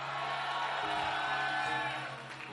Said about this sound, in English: All of you that heard that, give God a very mighty praise. I didn't say clap, give him a mighty praise.